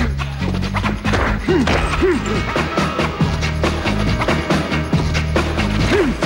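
punches hitting a face

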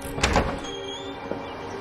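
front door opening

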